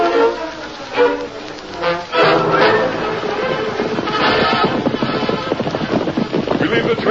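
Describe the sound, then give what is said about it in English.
Horses gallop with a rapid, steady clatter of hooves that builds after a brief pause and continues strongly, set against a noisy, windy outdoor background with some indistinct voices early on. “Isn't that someone riding out of the canyon?”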